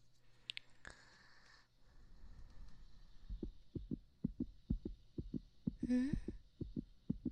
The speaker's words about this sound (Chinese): 怎么搞的？心跳还是这么快啊？